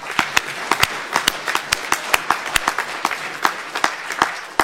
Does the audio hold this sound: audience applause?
yes